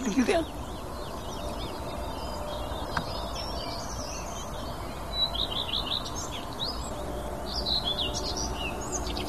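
A songbird sings a high, quick phrase of repeated chirps followed by a second, different motif, set against steady background noise with other faint bird calls.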